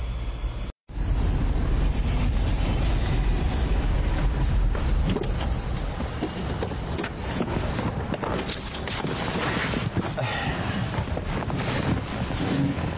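A train in motion rumbles steadily throughout, a dense low roar with rushing, wind-like noise on top, fairly loud and continuous, broken only by a brief dropout near the start.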